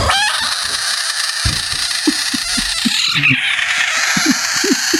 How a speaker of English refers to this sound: In the past, Mike, do you remember discussing the South American budget frog? The budget frog, we've had this before. Its defense mechanism is it screams, okay?